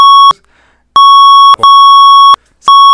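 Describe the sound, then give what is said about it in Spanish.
A loud, steady censorship bleep covering a name: a pure high-pitched tone sounding in four bursts of uneven length, separated by brief silent gaps, with no voices audible. “Si se censura, sí, pero que nadie lo escuche.”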